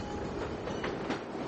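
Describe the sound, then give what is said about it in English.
A freight train rumbles steadily past, its wheels clacking over the rails with a couple of faint rhythmic knocks under the loud, continuous roar. “Coal train.”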